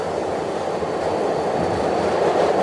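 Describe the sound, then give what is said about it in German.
A New York subway train rumbles steadily along the rails, a continuous loud roar with dense low-mid noise and no voices, sustained evenly throughout. “Am ersten Tag der vorsichtigen Wiedereröffnung der Millionenmetropole ließ sich New Yorks Gouverneur sogar dazu herab, medienwirksam U-Bahn zu fahren.”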